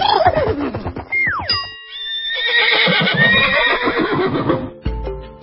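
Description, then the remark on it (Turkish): A horse neighs loudly, a long shrill whinny that rises and breaks into quavering trills, followed by a brief snort and a few short sounds at the end. “Bu canlının adı at.”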